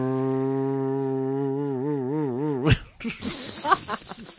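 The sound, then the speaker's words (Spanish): A voice imitates an electric hand blender used for whipping to stiff peaks: a steady, low buzzing hum that starts to waver and wobble, then breaks into a harsher, hissing, sputtering burst of noise. “Con esa, aquella batidora eléctrica de brazo, que recuerden, ¿eh? Que es el que hace ese ruidito.”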